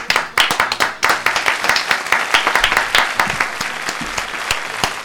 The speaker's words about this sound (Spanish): Un aplauso, por favor, exclusiva.